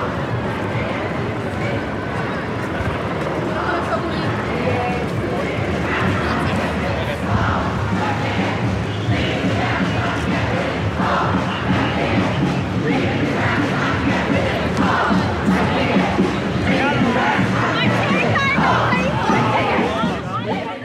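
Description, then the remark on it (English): A large crowd of protesters roars and shouts continuously, a dense wall of many voices with rhythmic surges like chanting, loud and steady throughout with no single voice standing out. “Because the main protest is coming this way and you'll get crushed and you'll get trampled.”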